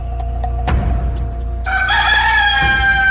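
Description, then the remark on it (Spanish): A single loud rooster crow rings out, one long drawn-out cock-a-doodle-doo rising over steady background noise and a few sharp knocks. “Se ha detectado un gallo haciendo paracaidismo en las calles de Florida.”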